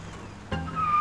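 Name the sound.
car engine driving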